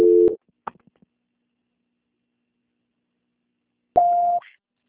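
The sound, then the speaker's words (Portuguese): A steady two-tone telephone beep cuts off, followed by a few faint clicks, a long silence, then a single higher electronic tone sounds for about half a second as the call is transferred. “Assim que o telefone estiver disponível, transferência.”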